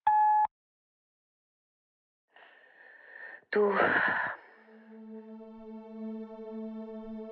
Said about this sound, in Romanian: Înregistrează un mesaj după semnalul sonor.